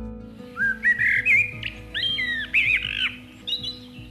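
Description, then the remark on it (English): A blackbird sings a run of clear, fluting phrases with short pauses between them, fairly loud, heard alone with a low steady hum underneath. “The blackbird.”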